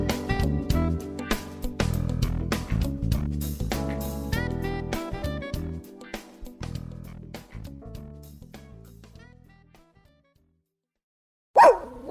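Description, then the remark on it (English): A single loud, sharp dog bark rings out near the end, right after upbeat instrumental music fades into a moment of silence. No one speaks. “You hear that? Your dog knows.”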